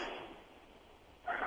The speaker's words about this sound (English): I hear him breathing. Yeah, it's what it sounded like.